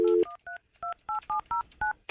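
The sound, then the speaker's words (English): A brief dial tone gives way to a quick run of about seven touch-tone beeps as a phone number is punched in to call a house landline phone, each a clear two-pitched electronic chirp with short gaps between. “Calling the house phone, which is underneath my side of the bed. This is the house landline.”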